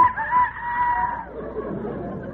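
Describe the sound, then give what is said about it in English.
A rooster on a farm crows once in the early morning, fairly loud, its strained, sustained call lasting about a second before fading into soft, muffled background noise. “No, that's the rooster. It's morning.”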